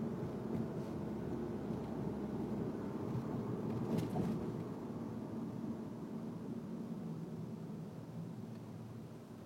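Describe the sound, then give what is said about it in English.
A fire truck's heavy engine rumbles steadily, swelling slightly and then easing off as it passes, a loud, continuous low drone with no voices. “Got this fire truck here doing fire truck things.”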